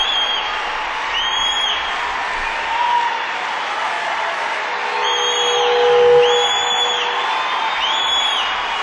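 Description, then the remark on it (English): Piercing, high-pitched whistles from a man in the audience cut through a steady wash of applause and cheering, several rising and falling blasts repeating over the crowd noise. “This man down here is the loudest whistle I've ever heard.”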